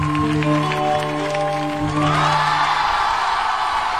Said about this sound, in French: Merci, merci, merci. Applaudissez, merci.